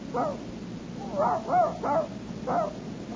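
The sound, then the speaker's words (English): A male dog barks five times in an uneven pattern, one sharp bark, then a quick cluster of three, then a final one, moderately loud, with no one talking. “Down, boy. Down. Oh, you like dogs”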